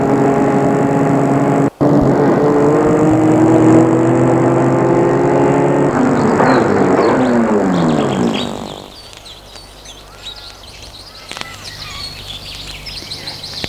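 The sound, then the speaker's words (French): A car engine is started and runs loudly, droning and then revving higher for a few seconds before cutting out, leaving quieter outdoor ambience with faint bird chirps. “Elle sort de voiture et la met en route. Et la fait cogner contre platane.”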